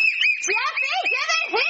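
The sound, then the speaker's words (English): A whistle is blown in one long, shrill, unbroken note at steady loudness, while a voice talks loudly over it the whole time. “I said take that whistle from him!”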